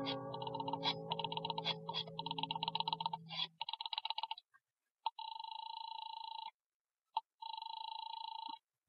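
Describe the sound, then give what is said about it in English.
A rotary telephone dial clicks and whirs over a low hum for a few seconds as a number is dialed. Then come even bursts of a ringing tone on the line, with no one speaking. “I bolted the door, picked up the phone, and started to dial the number of Harvey's office”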